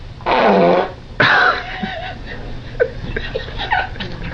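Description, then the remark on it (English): A fart is lit with a flame: a loud, raspy fart-like blast lasting nearly a second, then a second shorter burst, followed by quieter scattered giggles and snickers from people. “Dun, dun, dun, I want to watch dun, more dun, of these fart lightings.”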